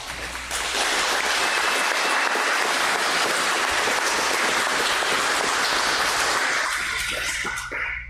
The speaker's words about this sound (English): Well, I thought you'd clap for that. You clap for the military, maybe we'll clap for the police also, right?